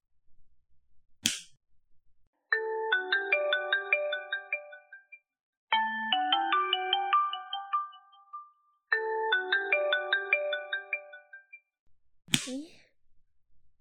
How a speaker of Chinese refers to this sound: 这丫头现在打电话来干什么呀？